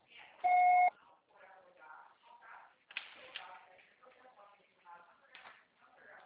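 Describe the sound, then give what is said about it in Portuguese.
A single loud, steady voicemail beep tone lasting about half a second, signalling the start of message recording, after which the call is charged; a person begins speaking right after it. “O processo será tarifado após o sinal.”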